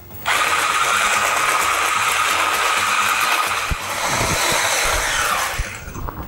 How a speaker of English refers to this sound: To another mixing bowl, I'm going to add in my butter, followed by the sugar. Now I'm going to whip this up.